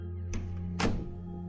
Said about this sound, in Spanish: La puerta se cierra.